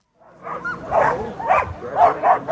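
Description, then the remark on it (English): Sled dogs of the Iditarod Trail Sled Dog Race in Alaska bark and yip excitedly in a steady, overlapping chorus, several sharp calls rising and falling with no pause, some barks edging into whines. “The 38 sled dog teams in this year's Iditarod began with a ceremonial run through Anchorage, then the official start north of the city in Willow when the race clock started ticking 1 week ago.”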